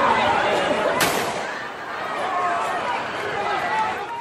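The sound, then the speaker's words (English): On a street in Charlotte, North Carolina, at night, a loud, chaotic crowd of shouting voices fills the scene as police fire tear gas and rubber bullets into it, broken by one sharp, explosive bang about a second in, like a launcher firing, while the commotion continues. “Here's some sound from the streets of Charlotte, North Carolina, last night as police shot tear gas and rubber bullets into the crowd.”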